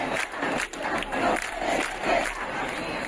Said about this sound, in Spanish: Nuestras vidas no pueden esperar, y gritos en defensa de la sanidad pública. La protesta ha sido a las puertas del Servicio Andaluz de Salud. En Sevilla ha sido la más multitudinaria.